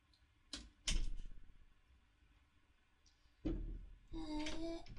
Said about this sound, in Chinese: 老公开门，我忘带钥匙了。